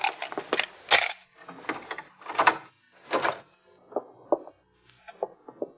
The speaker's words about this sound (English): You have a pass key? Yeah. All right, open the door.